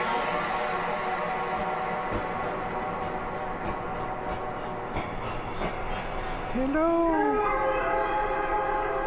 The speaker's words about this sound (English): So that's just a reverb with a whole bunch of delay.